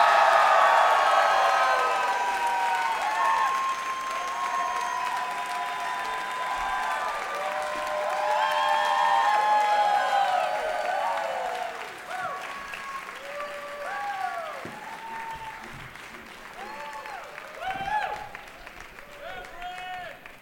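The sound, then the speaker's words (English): A Seattle audience claps and cheers loudly to welcome the guests of a show, with high whoops and shouts riding over steady applause that eases off about halfway through before a brief swell near the end. “Please give a big, warm Seattle welcome to Ken Jennings, Justin Robinson, Andy Haynes, and Graham Elwood.”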